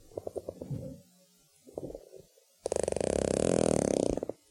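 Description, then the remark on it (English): A single sperm whale clicking: a few spaced, sharp pulses, then a brief pause before a loud, rapid train of clicks that blur into a creaking buzz for nearly two seconds. No voices. “Here's some sperm whales again.”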